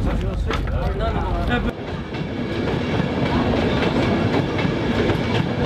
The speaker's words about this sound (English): the SRPS youth group is on a train.